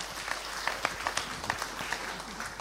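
Audience applause, a steady wash of many hands clapping with scattered sharper claps standing out, moderately loud and sustained throughout the short stretch.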